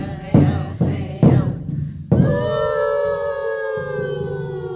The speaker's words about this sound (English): You are hearing a welcoming song of the native tribes of the Northwest.